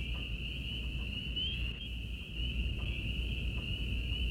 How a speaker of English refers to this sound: Little peepers and crickets and katydids talked to each other.